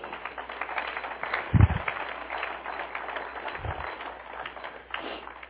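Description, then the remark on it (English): A church audience gives a praise clap to the Lord during a sermon, clapping steadily for several seconds, a dense, even wash of many hands with a couple of low thumps mixed in, then the clapping thins slightly toward the end. “Give the Lord a praise clap.”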